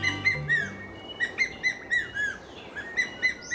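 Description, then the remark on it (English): An ornate hawk eagle calls in a rhythmic series of short, high whistled notes, about nine in quick succession, clear and moderately loud over a soft, steady background hiss. “It might not be your average call for either a hawk or an eagle, but it's the distinctive call of the ornate hawk eagle.”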